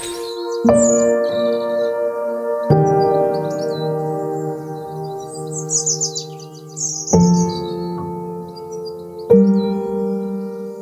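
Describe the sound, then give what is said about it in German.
Birds chirp and twitter high in the background while four resonant, bell-like tones strike and ring out in sustained layers; no one speaks. “Wobei bis jetzt sind die Vögel lauter als die Autobahn, aber das wird sich vielleicht gleich ändern.”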